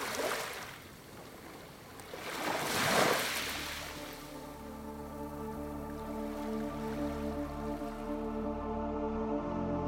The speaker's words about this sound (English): I imagine this landscape myself being in the water, immersed in water, like in a rocky pool and some kind of high mountains around, like kind of, you know, a lake, listening, it lying in the water and listening to the water.